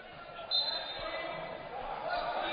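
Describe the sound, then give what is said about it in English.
A basketball is slapped and tipped out of bounds on a hardwood court during a Hope College basketball game. A few quick thuds sound against the steady roar of a crowded gym. “Slap of the basketball underneath the Stivey, but it's tipped out of bounds.”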